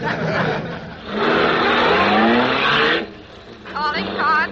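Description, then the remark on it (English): A patrol wagon's engine roars up loudly for a couple of seconds, rising in pitch like it's revving, then drops away, followed by brief wavering, warbling tones. “Last one in the patrol wagon gives up her nylon stockings.”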